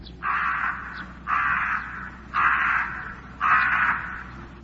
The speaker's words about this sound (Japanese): その林の中で武蔵小次郎の勝敗を静かに見下ろしていた松の大木は枯れて白く、しかしなお威厳を保とうと必死である。その老木に数羽のカラスが羽を休めている。